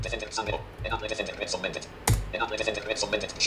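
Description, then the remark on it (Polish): A single sharp mouse click lands near the middle, crisp, clicking on an on-screen message, while a person talks steadily throughout. “No i na przykład klikamy sobie w to miejsce, w ten komunikat.”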